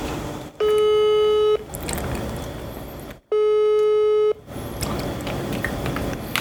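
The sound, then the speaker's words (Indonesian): A phone ringback tone sounds twice as someone phones a woman, each steady one-second buzz separated by a pause of roughly two seconds, loud and clear over a faint hiss of background noise. No one speaks. “Oke, okay, kita telepon ya”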